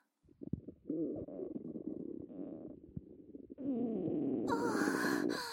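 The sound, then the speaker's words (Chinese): Loud intestinal gurgling churns for several seconds after air has entered the bowel through a tube, bubbling and squelching like passing gas, then swells into a harsher, hissing gurgle near the end. No one speaks. “肠子里发出的声音就像放屁一样呢。”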